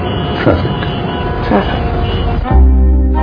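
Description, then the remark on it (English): Busy street traffic rumbles steadily with passing vehicles and muffled background voices, then a loud, low, sustained horn-like blare cuts in near the end. “But we hadn't counted on traffic.”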